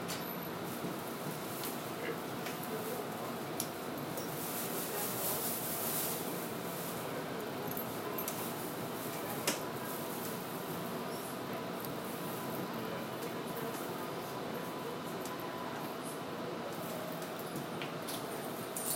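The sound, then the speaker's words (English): A light rail train bound for 8th Street VA Medical Center rolls steadily between stations near the Museum of Fine Arts stop, a constant broad rumble and hiss, with occasional faint clicks and rattles and no clear voices. “The destination of this train is 8th Street VA Medical Center.”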